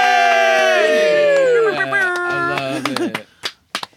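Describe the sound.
Several voices cheer together with long, rising and falling whoops, then it breaks up into a few scattered claps and short shouts before fading out.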